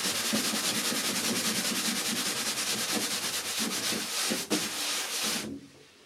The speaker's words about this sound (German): Er überlegt, was er nun machen soll und beschließt erst einmal, alles aufzukehren. Und wischen muss er natürlich auch.